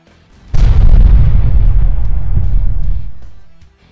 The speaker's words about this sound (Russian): Взрыв был сильным.